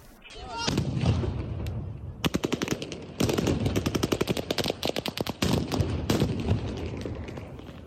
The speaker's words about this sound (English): In southern Ukraine, Russian forces use stun grenades and machine gun fire to disperse a crowd of hundreds of people who gathered in Kherson on Monday to protest against the Russian occupation of their city.